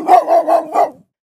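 A dog barks four times in quick succession, loud, with short even gaps between each bark before the sound cuts off into silence.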